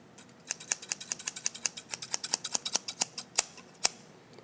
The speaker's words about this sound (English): Those are scissors. I would have brought my pruning shears, but it doesn't make the same sound.